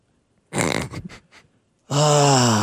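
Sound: exaggerated yawn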